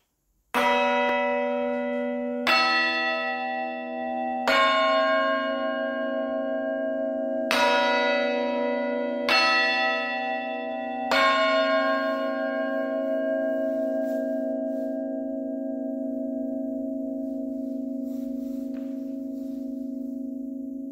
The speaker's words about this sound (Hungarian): hát az eddigi legnagyobb harangod, ahogy említette, 470 kg-os, ami hát egy azért egy tekintélyes falusi méretekben, falusi nagy harangnak már megfelel. Úgyhogy tehát ezt a Szepes Bélai harangot hallgatjuk meg a Szlovákiának az északkeleti részéből.